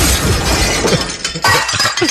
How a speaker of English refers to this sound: And then the woman that's road raging gets out of the car with a small hammer and then beats the woman's window till it breaks.